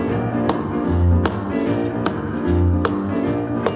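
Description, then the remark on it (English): A hand slaps the back of a guitar five times in a steady, even beat, each slap a sharp, bright knock standing out over a continuous backing of low, sustained musical tones. “slapping the back of his guitar so that everyone would stay on the right tempo as he sings”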